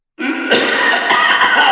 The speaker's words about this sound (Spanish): La siguiente canción arranca con tos.